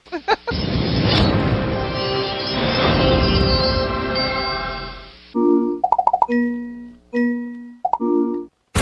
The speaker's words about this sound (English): Whoa, holy crap. Hey, but that is the gunshot to let us know there's important news going on, guys.